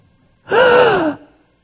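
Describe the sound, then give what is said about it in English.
A single loud, dramatic gasp, a sharp voiced intake that slides downward in pitch and lasts under a second before fading into silence. “Some of you just gasp when you found out the dove was gone.”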